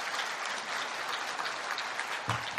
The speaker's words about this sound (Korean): 아유 너무 고마우니까 그분들 위해서 박수 한번 탁만 쳐줍시다.